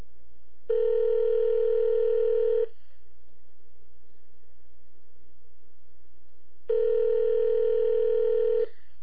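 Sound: telephone ringback tone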